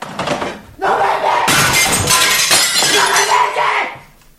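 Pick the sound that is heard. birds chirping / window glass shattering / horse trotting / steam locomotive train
window glass shattering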